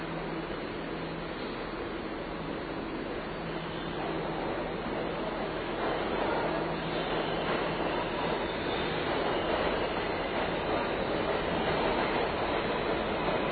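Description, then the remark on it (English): A subway train at a subway station rushes past on the express track, a steady loud roar of wheels and rumbling cars building slightly over several seconds, with no talking. “Yet another one coming down the express track.”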